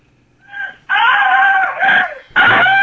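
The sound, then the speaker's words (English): Loud, shrill tropical bird calls: a brief softer squawk, then a long wavering screech and another harsh cry cutting in at the end, with no talking. “Tropical birds.”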